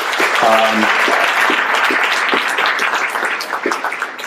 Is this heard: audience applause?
yes